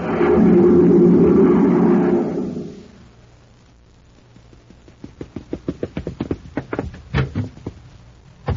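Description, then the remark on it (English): Someone rushes out a door to go to the grocery: a loud roaring whoosh fades away, then a quick run of clattering thumps and bangs builds up, with no one speaking. “Just Danny Fields rushing out the door to the grocery.”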